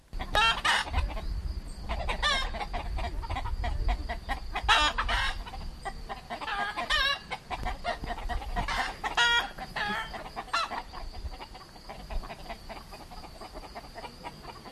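A flock of chickens in the poultry yard of a goat and sheep cheese farm, kept alongside geese and ducks, clucks busily and continuously, with sharp overlapping calls and a brief crow, against a steady low rumble of farmyard background noise.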